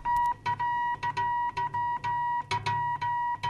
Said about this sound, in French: comment est apparu le fameux télégraphe électrique ou le code de Morse. Écoutez, je vais envoyer un message d'ailleurs.